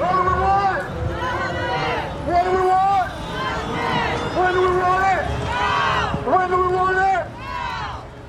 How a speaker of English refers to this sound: This is a rally for the MMIP movement in Northern California. A crowd of people walk down the street dressed in red and black, the colors of the MMIP movement.